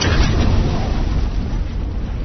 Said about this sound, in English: The rest of her sentence, until we stop those stormtroopers, was silenced by the roar of an incoming concussion missile, and the ravine erupted into an expanding sphere of tumbling stormtrooper parts and bright, blinding light.